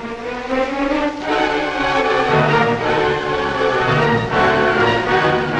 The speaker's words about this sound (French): L'avion d'accompagnement va survoler le champ de bataille pour éclairer nos troupes.